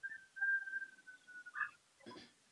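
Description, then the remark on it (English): A faint rooster crow: a thin, steady high note that swells into a brief, harsh, strained cry near the end. No one speaks. “I heard a rooster.”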